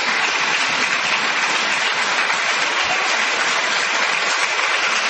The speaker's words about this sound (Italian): Io vi ringrazio per l'applauso,